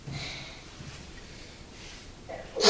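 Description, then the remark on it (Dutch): A sudden sharp sneeze bursts out at the very end, loud and breathy after a stretch of quiet, soft sniffing sounds. “Gezondheid.”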